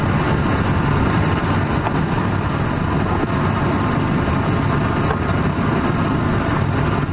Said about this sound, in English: Do you want to play some of that video of my daughter landing landing a plane? Landing a glider at Tehachapi Glider Airport in California.